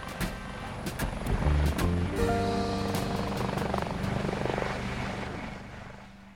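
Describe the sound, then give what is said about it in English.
A blue helicopter's rotor thumps over a rising mechanical whine, loud, holding steady for several seconds before easing off toward the end. No voices. “Next to him, a pair of smart-looking German investors in sunglasses smiled for the cameras, prepared to follow Baldor inside the helicopter.”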